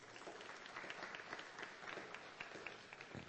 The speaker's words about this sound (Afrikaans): Geef hulle 'n hande klap.